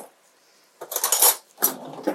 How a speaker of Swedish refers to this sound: Nu tycker jag att det här börjar se ut som att ja, vätskorna, grönsakerna har liksom gett ifrån sig lite vätska och börjat bli lite mjuka. Så att jag tycker att vi häller i lite matlagningsvin.